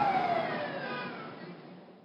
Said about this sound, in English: In New York, the sound of sirens has replaced all the ordinary noises of city life.